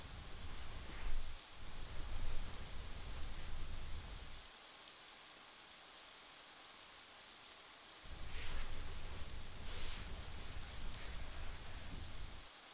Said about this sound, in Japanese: この雨の音どう聞こえます？うちにはとても静かな音に聞こえます。そうやな、今日の雨やったら優しい雨